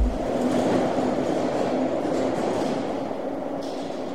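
A train rumbles steadily, a loud continuous roar of wheels and rails with a faint humming tone running through it. No one speaks.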